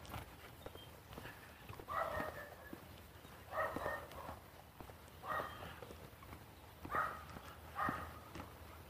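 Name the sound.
dogs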